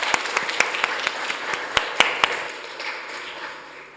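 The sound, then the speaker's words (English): An audience applauds itself after reciting Psalm 119, verse 105 together. A wash of overlapping claps with a few sharp, prominent smacks standing out, then the clapping thins and fades away over the last couple of seconds. “I think give yourselves a big round of applause.”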